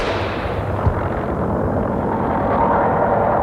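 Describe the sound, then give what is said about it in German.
A single sharp starting shot cracks early on at the start of an open-car road race at Le Mans under blazing sun at over 40 degrees, set against a thick, continuous roar of race car engines that swells slightly louder toward the end. “Und dann fällt der Schuss.”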